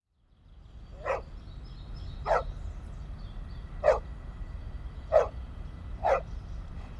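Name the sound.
dog barking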